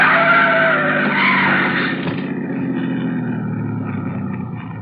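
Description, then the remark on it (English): A car engine roars loudly with screeching tires and a high whining tone as Van Hook's car squeezes through between the trailer in front of him and an oncoming truck. It then settles into a steady, slightly quieter rumble for the remaining few seconds, with no voices. “The trailer in front of him. And the oncoming truck. Van Hook's trying to squeeze through.”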